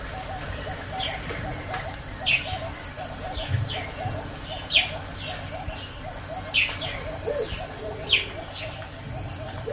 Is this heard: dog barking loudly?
no